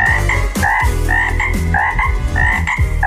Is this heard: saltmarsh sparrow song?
no